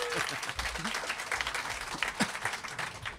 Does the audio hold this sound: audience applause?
yes